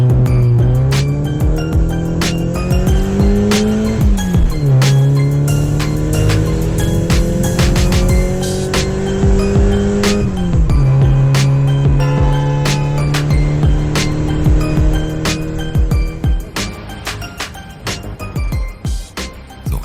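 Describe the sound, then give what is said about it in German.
A car pulls away hard with a brief tire squeal, its loud engine revving up through several gear shifts before easing off near the end. No one speaks. “Komm, wir steigen ins Auto. Wir fahren los.”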